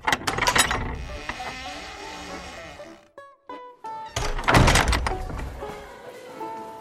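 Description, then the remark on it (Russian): A school door is opened from the entryway: a heavy latch clunks, the hinges give a few short squeaks, and a second solid knock follows as it swings. No one speaks. “В сенцах снял шапку и отворил дверь.”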